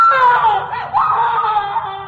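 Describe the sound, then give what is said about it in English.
A woman screams in a long, high-pitched, wavering cry that holds for about two seconds, loud, with no other voices. “Heard her screaming.”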